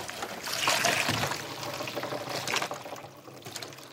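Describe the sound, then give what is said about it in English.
Maple sap sloshes and pours into a bucket, a splashing trickle that swells around the first second and again near two and a half seconds, with no voices; sap collected from tapped maple trees. “Let's have a look in some of the buckets.”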